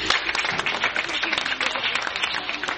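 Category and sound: crowd, audience clapping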